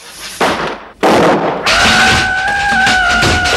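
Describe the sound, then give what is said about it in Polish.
A chemistry experiment with wrongly chosen proportions explodes, blowing apart a table: three loud, sharp blasts in quick succession, the last giving way to a sustained roaring hiss with a thin, steady whistling tone riding on top. “Dobrze, przecież rozerwało stół.”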